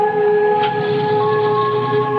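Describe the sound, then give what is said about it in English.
An ambulance siren sounds loudly and steadily as the ambulance arrives, a sustained, unwavering multi-tone blare with no speech and a faint rumble beneath it. “An ambulance arrives.”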